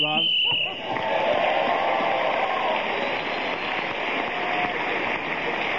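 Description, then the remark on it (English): A single short, shrill whistle blast marking the end of time, lasting under a second, immediately swallowed by loud, steady crowd noise that carries on to the end. “So Peter Jones, speaking of the whistle wind, got the extra point for doing so”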